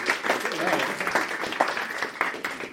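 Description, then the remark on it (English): A burst of audience applause after a participant identifies a car toy by touch, many hands clapping together in a steady, dense patter at moderate loudness, with a few voices mixed in underneath. “Round of applause!”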